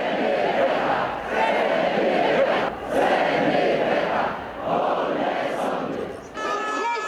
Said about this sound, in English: Many Polish people roared in protest, filling the streets to fight against the new government's push.